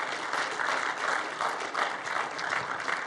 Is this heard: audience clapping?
yes